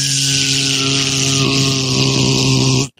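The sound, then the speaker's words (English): A voice imitates a food delivery drone with a steady, loud, droning buzz, a low hum and a bright whirring edge, held unbroken for about three seconds before cutting off abruptly. “Could you imagine a drone just like...”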